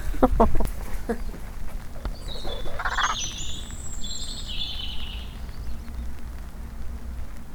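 A robin sings a brief run of high, sweet warbling chirps over a steady outdoor background hiss, after a few sharp knocks at the start.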